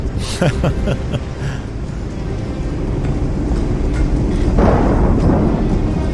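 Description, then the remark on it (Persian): A storm that someone has stirred up roars with deep, rolling thunder, a dense low rumble that fills the whole stretch and swells louder toward the end. “با این طوفانی که بپا کردی من نمیتونم کاری کنم.”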